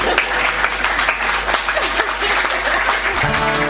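A crowd claps steadily and enthusiastically throughout, a dense, continuous wash of applause that fills the room, with a faint musical tone emerging near the very end.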